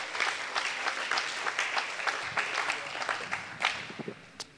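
An audience claps together unto the Lord in a dense, steady burst of applause, many hands overlapping into a continuous crackling wash with a few sharper claps standing out.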